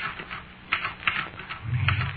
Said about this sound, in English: Me, the typewriter. Me. And at last, my pirate. Oh, come on, character. Come on, pirate. And the typewriter clacked away.